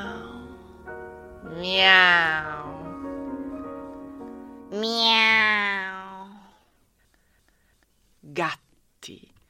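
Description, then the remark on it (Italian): A female cat gives two long, drawn-out meows, each rising and then sliding down, fairly loud, followed by a pause and two brief, sharp clicks. “Gatti, gatti, mia seconda anima.”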